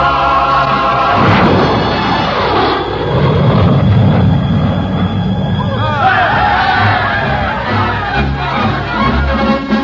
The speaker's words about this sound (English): Tonight, Nadine Connor is the Princess Rosalie, and I am Lieutenant Dick Fay, who at this very moment is making the first non-stop supersonic jet plane flight from the United States to the Kingdom of Romanza.